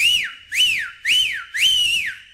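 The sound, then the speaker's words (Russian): A person whistles four quick, bright notes in a bouncy, even rhythm, each one sliding up and then dropping back down. The whistling is loud and alone, with no voices. “Ну-ка, дай задорный свист.”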